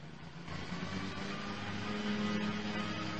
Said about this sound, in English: We have a little competition with the lawnmower. Yeah, not a big yard back there.